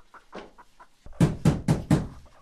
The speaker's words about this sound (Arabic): من الطارق؟ من هذا المضطر في هذا الوقت من النهار؟ من خلف الباب؟